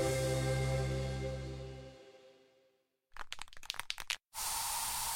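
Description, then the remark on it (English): A lingering musical tone fades out, then an aerosol can of bug spray rattles in several quick shakes before a loud, steady hiss of spray bursts out. “So you just used bug spray in your home.”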